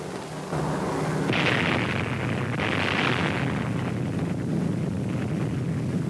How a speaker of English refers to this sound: There it goes. The fourth atomic bomb has been successfully detonated. First you see a blinding flash, then comes the hemispherically shaped cloud that expands rapidly just behind the initial pressure wave.